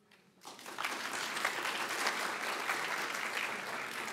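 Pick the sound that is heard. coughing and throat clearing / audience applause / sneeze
audience applause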